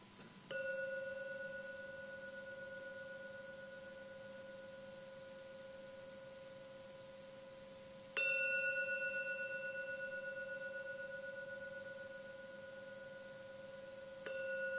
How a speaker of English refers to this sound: So I'm now going to ring the gong 3 times as usual. Please don't rush. Listen to every sound from the gong. And when the 3rd ringing vanishes, then come out from your meditation.